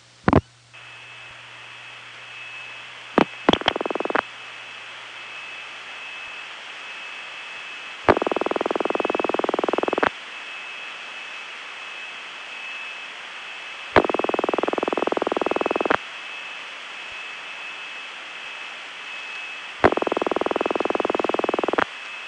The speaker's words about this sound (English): Another Bell System ring, similar to that last one but softer, was installed during the late 40s and early 50s in suburban areas. Here's an example of it, and I only have the single ring version of it on tape.